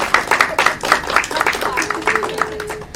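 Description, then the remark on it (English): An audience claps steadily, many hands making a dense, even patter of applause that holds at a moderate level throughout, with a faint sustained vocal tone rising under it near the end. “Yes, clap for that, please.”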